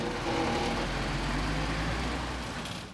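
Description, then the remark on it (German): Steady vehicle traffic rumbles, cars and heavy trucks rolling continuously into a truck stop with a constant low engine drone and road noise, no voices heard. “Inzwischen rollen immer weiter Autos und Lastwagen auf den Autohof pausenlos.”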